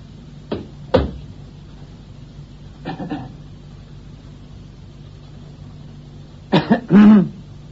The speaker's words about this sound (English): I'll get that cough of yours seen to, Silken.